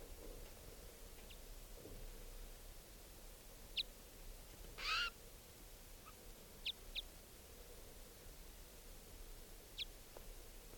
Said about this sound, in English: The other wild bird is still here, calling.